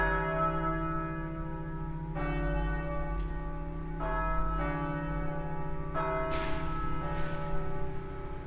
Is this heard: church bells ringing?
yes